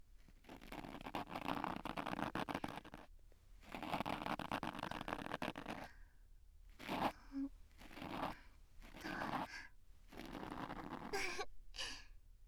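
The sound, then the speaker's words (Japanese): Scratchy, rustling scraping of an ear pick working inside an ear in a small room, in two long strokes followed by several shorter bursts, with soft breathy exhales in between and no talking. “聞こえるのは耳かきする音”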